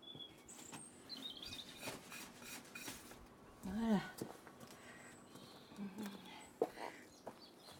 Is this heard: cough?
no